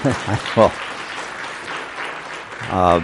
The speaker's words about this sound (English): I didn't do that for the applause, but I appreciate it.